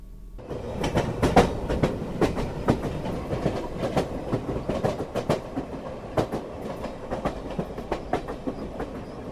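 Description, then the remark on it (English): A double-decker rush hour commuter train rolls steadily along the rails, running into the city without stopping at Huntington. A low continuous rumble is punctuated by sharp, regular clickety-clack beats from the wheels, with no voices. “All right, made it to the rush hour train.”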